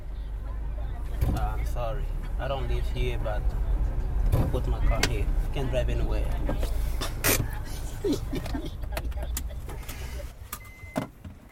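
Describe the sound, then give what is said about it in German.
A car is maneuvered and parked on private property in front of an apartment building in Luanda, its low engine rumble steady beneath clicks, a whirring window motor and jangling keys, with voices murmuring in the background. “Er stellt sein Auto einfach auf ein Privatgrundstück vor einem Mietshaus.”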